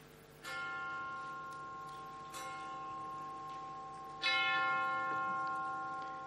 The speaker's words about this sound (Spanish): Acaban de dar las 3 en el reloj, la campana.